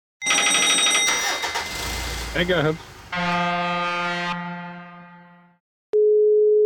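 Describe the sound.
A steady, single-pitched phone ringback tone of an outgoing phone call sounds clearly near the end, following a burst of electronic tones and a brief spoken exchange.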